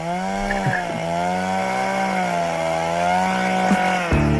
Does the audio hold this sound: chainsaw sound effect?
yes